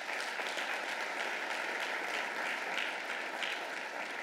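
Steady, dense applause from an audience during a speech, given to Richland County Council, a continuous crackle of many hands clapping at an even loudness throughout, with no voices rising above it.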